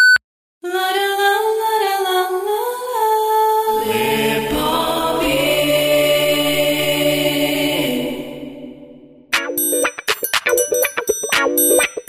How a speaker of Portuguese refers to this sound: Após o bip, o Lepopcast continuará normalmente.